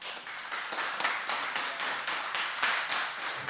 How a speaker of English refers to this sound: So give them a great round of applause.